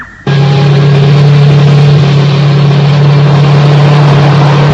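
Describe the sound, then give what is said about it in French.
A microcomputer-controlled motorcycle engine kicks in abruptly and roars loud as a rider sets off toward the suburbs, holding a steady, buzzing drone for several seconds with no voices. “Il a pris une moto.”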